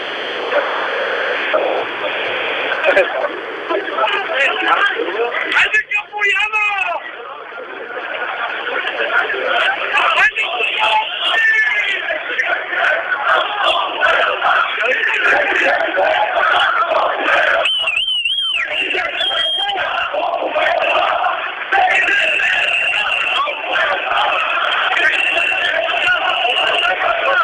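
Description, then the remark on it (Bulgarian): A crowd chants and shouts continuously at a protest, a dense wall of voices with a thin, radio-like tone, broken now and then by shrill rising cries or whistles. “Предполагам, чувате в ефир скандиранията.”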